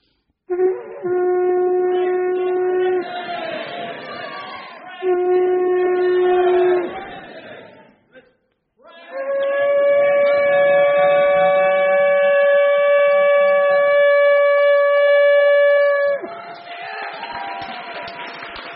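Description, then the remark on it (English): A horn is blown as a cue for listeners to shout "Christ is risen", in three loud blasts: two shorter, lower notes, then a long, higher sustained note that bends at the ends, followed by brief background noise. “I'm going to blow the horn.”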